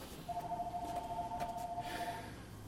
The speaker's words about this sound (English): Church clerk, can you get that phone?